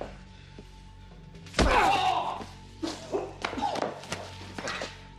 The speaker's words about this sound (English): Emerson kicks Itoho.